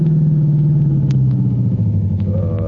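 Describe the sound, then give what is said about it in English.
A car engine rumbles loud, its low hum easing slightly downward as the vehicle slows and pulls up, with no voices over it. “Uh-oh. Police car, I guess.”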